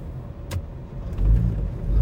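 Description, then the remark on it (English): A little scooter's engine revs amid traffic noise as it struggles to merge, a low rumble that swells louder in the second half, with a brief sharp click early on. “Oh, gee, sorry, I was trying to wave someone through them on a little scooter and clearly struggling to merge.”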